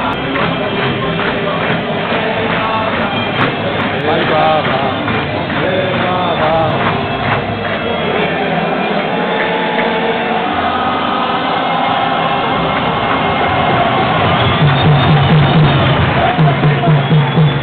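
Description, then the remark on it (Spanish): A stadium crowd of Cultural y Deportiva Leonesa football fans at a derby shouts and chants together in a dense, steady roar of many voices, waving León flags, with rhythmic clapping or stamping pulses joining toward the end. “Y gritos de Deportiva. También la hinchada leonesa, la hinchada de la Cultural y Deportiva Leonesa, que saca las banderas de León.”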